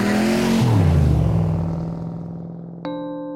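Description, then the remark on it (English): A loud muscle car engine roars, its pitch dropping as it shifts, then the rumble gradually fades. A short tonal note cuts in near the end. No voices. “so in the 50s, it was all about muscle cars. It was all about the loudest car you could have, Mustangs, Corvettes that were really, really loud.”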